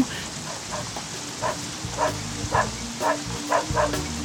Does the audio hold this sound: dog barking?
yes